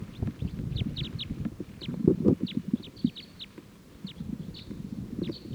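A whole big flock of crossbills, foraging on cones in a Douglas fir and startled by something, calls in a scattered burst of short, high chips over a steady low rustling and fluttering rumble, the calls repeating quickly throughout as the birds take off.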